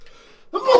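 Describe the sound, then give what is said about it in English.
A single muffled sneeze bursts out suddenly after a brief moment of quiet, loud and breathy with a sharp voiced edge. “Bless you. Excuse me.”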